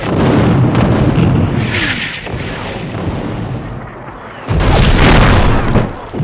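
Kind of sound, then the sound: impact, artillery shell explosions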